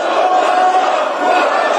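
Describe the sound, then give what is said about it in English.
Members of South Korea's parliament shout and scream at the podium during a parliamentary session that impeached acting President Han Duck-soo: many voices at once in a dense, unbroken roar, loud and steady for the whole couple of seconds with no pauses. “Members of South Korea's parliament just screaming at the podium during a session that ended by impeaching acting President Han Duck-soo on Friday”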